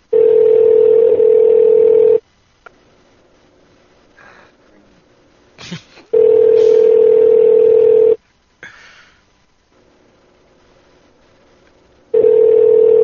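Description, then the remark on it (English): A phone line rings out three times with no answer, each steady electronic ringback tone lasting about two seconds and separated by longer pauses, with a few faint clicks and breaths in between. “Just doesn't want to pick up the phone anymore.”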